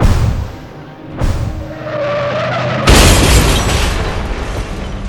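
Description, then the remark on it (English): A car's tires screech in a rising skid after a sharp thud, then a loud crash of crunching metal and shattering debris roars on for several seconds. No one speaks. “Living steel meets a man-made object, yet only one can survive. The car loses.”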